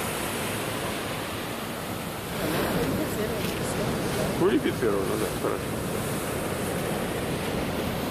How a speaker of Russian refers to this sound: А эта волна вообще не для серфера, это для скал. Пощекотать скалы немножко. Сейчас бабахнет, и мы увидим брынки.